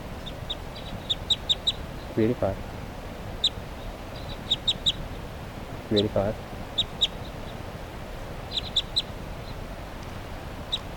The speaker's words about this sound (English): Recording, it's 11:44, that bird's still around here, that sub-adult female 387. And meanwhile, her flock mates are calling here.